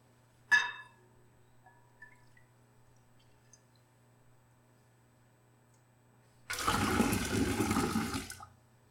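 A sharp ringing clink, then a few quiet seconds before water gushes out in a steady, splashing pour lasting about two seconds and stopping abruptly. No one speaks.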